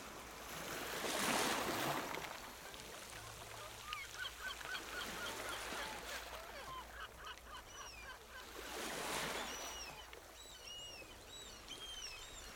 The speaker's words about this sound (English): Are those seagulls? Seagulls live close to the ocean. The Seashore Trolley Museum is near the ocean.